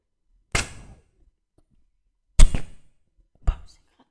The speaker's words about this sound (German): Boah, mir sind gerade zwei Stifte runtergefallen. Ich hole die kurz. So, ich habe sie wieder.